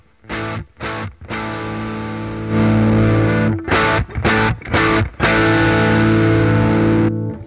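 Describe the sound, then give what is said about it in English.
Electric guitar through a Vemaram Jan Ray overdrive pedal, playing loud, slightly gritty chords with brief choppy stops between strums, then sustained ringing chords. No talking. “And then for this gig, there is a Vemaram Jan Ray pedal, which sort of sounds like a blackface super reverb.”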